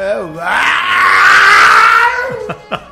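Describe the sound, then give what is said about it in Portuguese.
A man's voice imitates a motorcycle with a modified exhaust: a long, loud, rasping engine roar that swells and holds, then breaks into a few short sputtering pops at the end. “Essa Operação Barulho foi deflagrada lá em Tabuna, Operação Barulho Zero, onde motociclistas com descargas adulteradas tem que ser deflagrado aqui em Ilhéus também, viu,”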